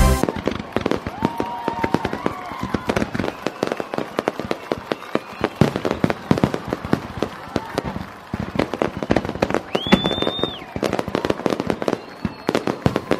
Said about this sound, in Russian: Нет, хочется сказать, что это не град. Это не град, это пиротехника, это салют. Уже сегодня в Ессентуках стартует международный чемпионат пиротехнического искусства.